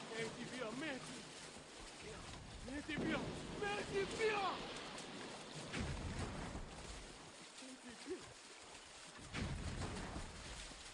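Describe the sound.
A friendly boat moves across open water toward this side amid steady wind rush and the wash of waves, with people's voices calling out intermittently over the broad, continuous noise.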